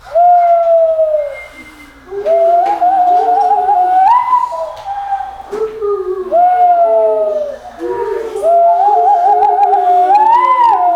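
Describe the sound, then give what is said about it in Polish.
Tawny owl hoots imitated by a nature and ornithology educator blowing through cupped hands: a run of hollow, breathy tones that swoop upward and quaver, loud and nearly continuous, with no talking. “Teraz chcę wam pokazać, jak robi sowa puszczyk.”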